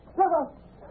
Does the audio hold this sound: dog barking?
yes